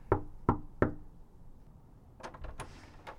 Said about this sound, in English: Yeah, I feel kind of weird about this, but I'm just going to go up to their door right now and knock, see if everything's cool. I walk up to the house, knock on the door.